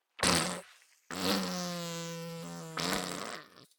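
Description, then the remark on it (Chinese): A loud fart released while bathing: a short sputtering blast, a brief pause, then a long buzzy, droning toot that ends in a raspy flutter. No one speaks. “洗澡的时候放屁，闻起来好臭啊！”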